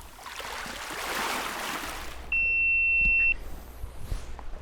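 nature, flowing water

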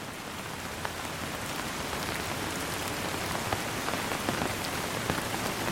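nature, rain falling on surfaces

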